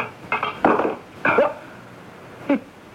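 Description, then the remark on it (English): A heavy wrench strikes a window pane in a few hard, clanking knocks at uneven intervals, the last one lighter, with quiet gaps between and no talking; the wrench bounces off and the glass does not crack. “It bounced right off the window pane. Look, the glass isn't even cracked.”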